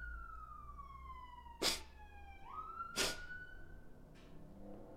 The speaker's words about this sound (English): Oh, sorry, the siren. Better?